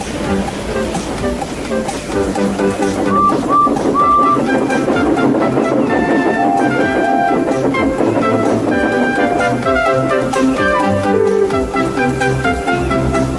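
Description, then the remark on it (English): Two railway engines, Duck and Edward, pushing and pulling heavy cars up a hill: a loud, steady rumble of machinery and clattering wagons, with a few brief high whistle-like tones early on and no pause throughout. “The two engines had to work hard, pushing and pulling all afternoon.”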